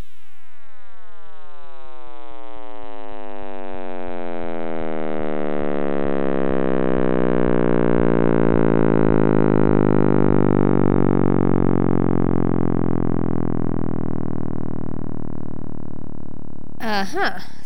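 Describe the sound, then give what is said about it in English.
An audio rendering of new measurements of the cosmic microwave background radiation: a dense, steady electronic drone whose many harmonic tones slowly sweep downward in pitch, growing fuller and louder over about seventeen seconds, with no voices. “That was actually an audio rendering of new measurements of the cosmic microwave background radiation”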